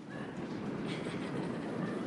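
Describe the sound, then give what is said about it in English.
A crowd stomps their feet together, producing a dense, continuous low rumble of many overlapping thuds that holds steady and loud for about two seconds, with no talking. “So I think probably the best way to do that is just stomp your feet a little bit.”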